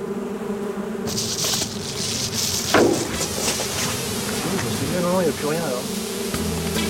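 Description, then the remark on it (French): A steady, dense hum of many honeybees buzzing around beehives as they go out foraging, continuous throughout, with a few faint voices murmuring underneath. “Ah, comment elles vont ces ruches là? Bah écoutez, ça a l'air d'aller. Hein. Les abeilles vont butiner.”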